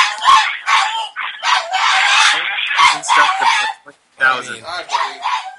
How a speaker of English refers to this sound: now I hear my dog screaming. Oh my God, is that the raccoon?